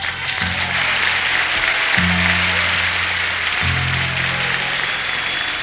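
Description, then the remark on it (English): Steady, dense applause from a crowd for the band fills the whole clip, a continuous crackling roar, while low sustained band notes hold and change pitch underneath. “let's give a hand to the ….”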